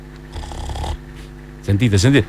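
Two snores: a rough, rattling inhale, a short pause, then a louder voiced, groaning exhale with a wavering pitch. Both are close and clear, with no other sounds around them.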